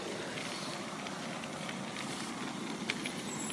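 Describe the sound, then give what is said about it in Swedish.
A steady, gritty scraping hiss of bicycle tyres rolling over an icy, sanded pedestrian and cycle path, continuous and fairly loud throughout, with one brief sharper crunch near the end and no voices. “Ni hörde kanske skrapet. Det är ju sandad gångcykelväg här.”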